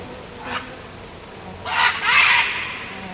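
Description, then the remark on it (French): Tropical rainforest ambience in the Nouragues nature reserve, French Guiana, about 100 km from Cayenne: a steady, high insect drone, broken by a few short chirping calls that swell up, the loudest near the end. No one speaks. “Alors les Nourags, c'est la plus grande réserve naturelle de Guyane, avec près de 105 000 hectares de forêt tropicale.”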